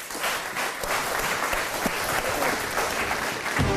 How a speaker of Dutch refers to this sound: Goed, dames en heren. Ik dank alle lijsttrekkers voor hun bijdrage. Groot applaus.